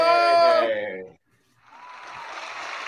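An audience shouts a name together in one loud, drawn-out call, followed by a brief silence and then a steady wash of cheering and crowd noise.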